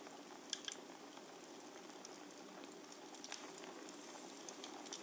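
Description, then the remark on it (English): A fire crackles steadily, a soft continuous hiss dotted with irregular sharp pops and snaps, one louder snap standing out early on. No one speaks. “The sound of the fire crackling.”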